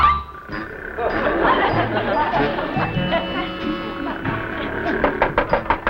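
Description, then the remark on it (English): A quick series of about half a dozen sharp knocks on a door at 5:30 in the morning rises near the end, loud, over a busy background of voices and murmur. “Abby's knocking.”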